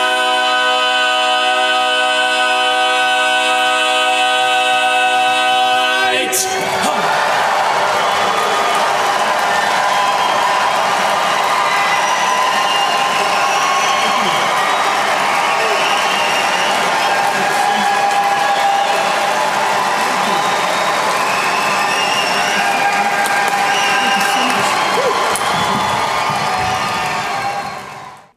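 A sustained vocal chord rings out for a few seconds, then an auditorium crowd erupts into loud, continuous cheering, whooping and applause that keeps going without a break.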